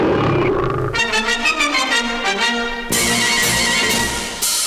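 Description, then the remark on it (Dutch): A lion's roar, loud, rolling out in a series of rhythmic growling pulses before giving way to a harsher, noisier burst of sound at the end, in an advert for Samson tobacco. No voices are heard. “Samson, een leeuw van een check.”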